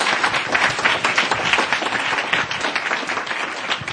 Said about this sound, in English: Thank you very much to you all, and a big round of applause for us.